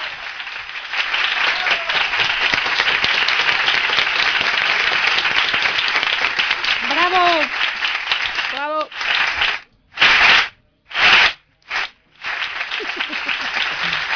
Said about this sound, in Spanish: Por cierto, vamos a poner un aplauso. Aunque no van a ir que están ahí de conversación. Para la gente de Radio Almenara. Para toda la gente de Radio Almenara.